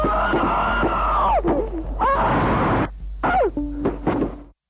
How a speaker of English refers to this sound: So that's pretty horrific, right? Those screams are, that's bad. It's a hard video to watch. It's brutal.